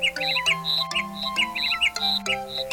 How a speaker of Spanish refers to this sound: El pájaro Pix Pix seguía cantando, anunciando un mensaje.